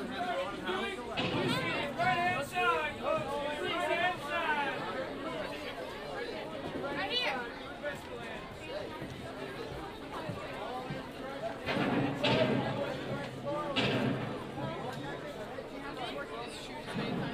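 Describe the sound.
A steady murmur of crowd chatter after the Fantasmic show has just ended, many overlapping voices blending into a continuous hubbub, with brief louder swells of talk and occasional footsteps.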